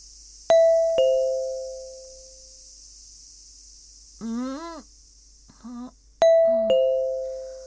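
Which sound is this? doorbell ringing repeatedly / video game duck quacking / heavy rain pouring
doorbell ringing repeatedly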